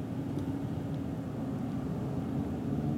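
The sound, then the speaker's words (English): Steady low rumble of a car's interior while cruising on a highway, a constant engine and road drone with no talking, even and unchanging throughout. “Yeah, you're just in a car that's going down the highway or whatever, and it's very relaxing.”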